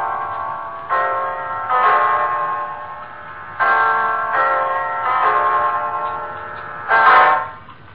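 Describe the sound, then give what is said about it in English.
A clock strikes nine o'clock with a slow series of resonant, ringing chimes, each tone lingering and overlapping the next. The strikes are loud, with no voices. “It's 9 o'clock, Mrs.”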